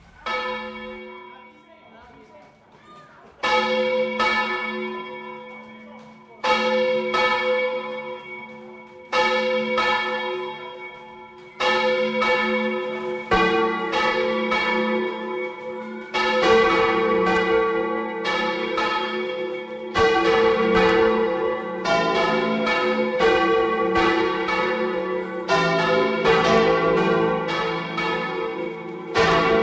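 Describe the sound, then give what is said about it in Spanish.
Large church bells swing full circle on their own axis (volteo), ringing loud with rich sustained tones; spaced strikes at first, then several bells overlap in a dense, continuous clamour. No voices. “Pues ahí tenemos ese volteo, esas campanas que dan vueltas sobre su propio eje y que pensamos que es en momentos importantes, ¿no?”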